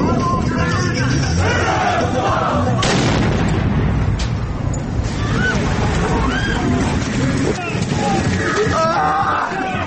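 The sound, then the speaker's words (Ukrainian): A loud, chaotic explosion scene of booming blasts and crackling impacts, with people shouting and screaming for help throughout, voices overlapping amid dense, continuous noise. “Давайте послухаємо, як власне відбувся цей вибух.”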